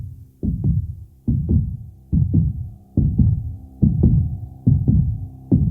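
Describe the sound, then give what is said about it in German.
A deep, thumping heartbeat at the start of a song pulses steadily in paired lub-dub beats, about seven double thumps, loud with a low droning hum underneath and no voices. “Ja, und das auch deswegen, weil das Lied mit einem Herzschlag beginnt.”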